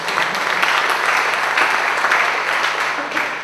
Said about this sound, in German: Ein Applaus für Programme.